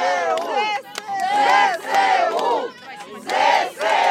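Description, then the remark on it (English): A large crowd in the center of Kherson, Ukraine, cheers and chants in loud, rhythmic bursts, many voices shouting together outdoors with short pauses between each swell, celebrating Kherson being back under Ukrainian control. “But for the people who stayed, and particularly the people who came out yesterday to the center of town, there's jubilation that Kherson is now back under Ukrainian control.”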